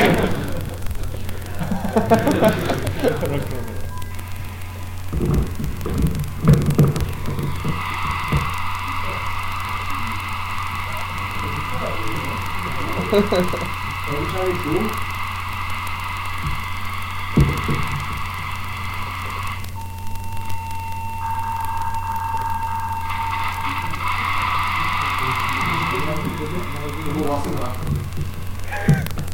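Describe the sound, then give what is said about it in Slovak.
An AFSK 1200 data signal: a harsh, steady electronic tone with bright upper harmonics that sustains for several seconds, shifts pitch partway through, over a constant low hum. “To pípanie, čo ste počuli, bolo kodovanie AFOSK 1200, ktoré sa najvyššie ešte rozhľadovalo.”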